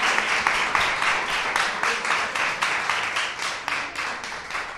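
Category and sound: crowd, audience applause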